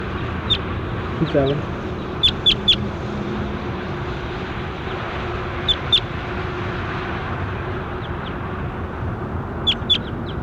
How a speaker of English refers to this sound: That was bird 27.